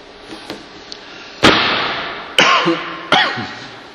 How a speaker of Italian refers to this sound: Scusate la tosse, ma c'è qualcosa nell'aria.